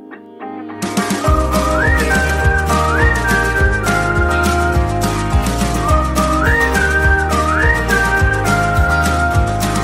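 A bright whistled melody rides over a full, steady pop track with a thumping beat, its rising, sliding phrases repeating in pairs clearly above the music.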